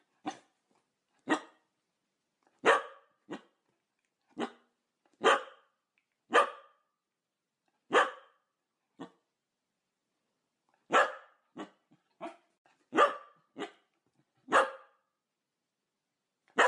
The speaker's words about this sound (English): They also love to bark, which yeah. We're going to listen to their bark now. All right. It's a Skye Terrier puppy.